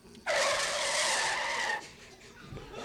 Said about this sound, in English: Like a hot branding iron on bluebonnet margarine, Otto's voice cuts through the dust and noise, stopping 1,000 thundering cattle dead in their tracks.